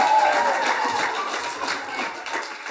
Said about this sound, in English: And today we have 10 people who are getting baptized across our three services. So it's a great day of celebrating. That is worth a cheer, actually. Yeah.